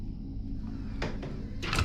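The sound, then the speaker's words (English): A cellar door at the top of wooden steps swings shut, giving a couple of short scraping knocks followed by a louder final thud as it closes, over a steady low rumble, with no voices. “Vicky reluctantly closes the door behind them.”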